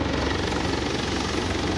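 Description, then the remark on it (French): A helicopter arrives to pick up pilots, its dense, steady rotor and engine noise filling the whole clip at a constant loud level, with no voices. “Les codes d'identification à nouveau sont échangés et déjà se présente l'hélicoptère.”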